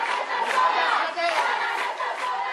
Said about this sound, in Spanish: Juana Rivas será recibida con aplausos de apoyo a su salida de los juzgados.